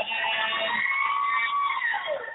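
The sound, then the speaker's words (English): A wailing ambulance siren, its pitch sliding up and down in a steady sweep, fairly loud and continuous across the whole stretch with no voices over it. “The reason you heard that ambulance sound is because our debut show, we're going to be talking about relationship rescue.”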